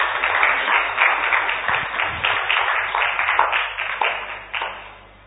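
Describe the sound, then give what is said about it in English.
An audience claps its hands for people who have come forward, a dense, steady burst of applause that holds for several seconds, then thins out and fades away at the end. “Clap hands for her.”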